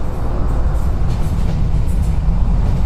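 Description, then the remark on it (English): A train passes overhead, steel on steel, a deep, steady, heavy roar and low rumble travelling through the concrete, staying loud and continuous for the whole stretch, with no voices over it. “Above you, trains pass.”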